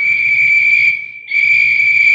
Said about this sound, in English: Hear the whistles, Delaney? Artie, I heard them when you whistled, too.